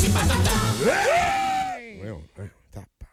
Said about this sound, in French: Ben oui, il était excité. Je savais qu'on allait crier, mais j'ai quand même fait le saut.